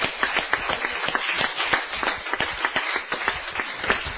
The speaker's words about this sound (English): Amen. Give her a cheer.